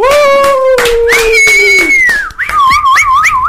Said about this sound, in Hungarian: Most csináljuk azt, hogy először tapsolunk és újjongunk, és csak utána mondjuk az eredményt, nem fordítva.